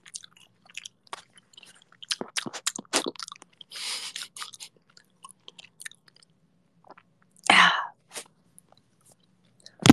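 Wet chewing with sharp crunchy bites in irregular bursts, a louder smacking crunch near the end, and quiet pauses between mouthfuls; no one speaks.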